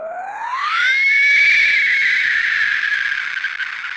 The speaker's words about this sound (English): He saw the ebon face, red eyes, and white fangs of his most wicked nightmare. There was a wailing screech that chilled his blood and made his whole pelt stand on end.